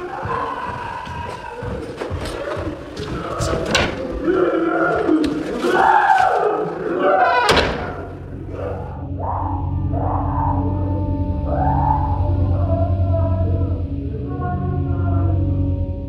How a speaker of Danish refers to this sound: men det er også bare næsten et minut, altså, hvor man hører en mand, der har det rigtig svært skrige, og man filmer en dør.